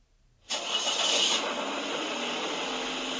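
car engine driving

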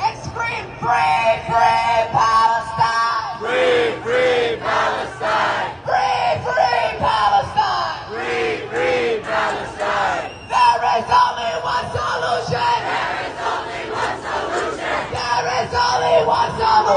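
protest crowd screaming

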